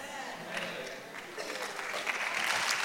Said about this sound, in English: If you're going to clap, clap really loud. You're not clapping for me.